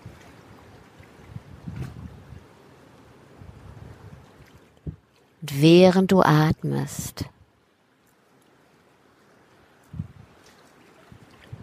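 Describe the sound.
A steady, soft wash of wind and ocean surf fills the background, with low rumbling swells rising now and then; a voice speaks briefly in the middle over the ambience.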